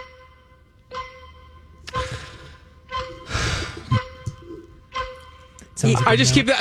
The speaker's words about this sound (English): But that's like that skit from wherever, and the countdown clock always drives me nuts.